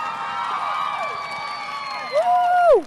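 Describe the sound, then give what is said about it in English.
A crowd of children at Edenbrook Elementary cheers and whoops with high, overlapping voices, welcoming Minnesota Vikings right guard Brandon Fusco. Some applause is mixed underneath, and one shrill yell rises above the rest toward the end. “How about an Edenbrook Elementary round of applause for Mr.”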